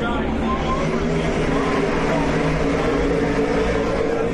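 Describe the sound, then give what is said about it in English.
A loud, continuous roar of race car engines droning steadily with low rumbling tones as the cars take off on the track after the pace car comes off, a constant wash of noise with a murmur of voices mixed in underneath. “I'm not able to hear what this recording sounds like, but maybe you'll be able to hear these engines as it takes off.”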